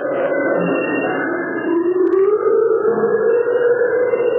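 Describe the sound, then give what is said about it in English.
Eerie, atonal droning fills the whole stretch, a wavering tone sliding upward and then holding over a hiss of dissonant noise, steady and loud with no voices: the Wandering Soul Tape, a psychological warfare recording backing a Vietnamese fable, played from boats going up rivers at the Viet Cong. “And it was backed by these sort of creepy atonal sounds.”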